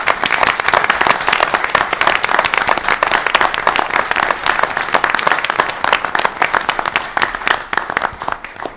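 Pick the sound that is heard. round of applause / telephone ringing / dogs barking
round of applause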